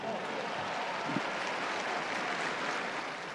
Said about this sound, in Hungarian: Taps a tűzoltóknak!